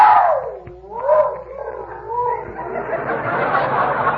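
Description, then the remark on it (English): A dog named Tiny, outside in his new doghouse at night, howls in a long, wavering tone that slides down, swells back up and wobbles in pitch, then trails off into a rougher, breathier whine. “Not if he keeps howling like that, he won't.”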